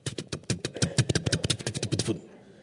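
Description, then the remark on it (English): A car engine sputters and coughs in rapid, uneven bursts for about two seconds, loud, then cuts out abruptly into near silence. “Do you remember sometimes you come in and you're sputtering in?”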